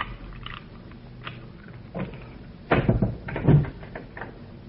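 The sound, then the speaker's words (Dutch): A key scrapes and clicks in the lock of a locked door leading out to the street, then the door creaks open with a few solid knocks and rattles, and the sound settles back into quiet. “Die deur is op slot. We zitten in de val. Je moet ook maar luisteren. Hier is de sleutel.”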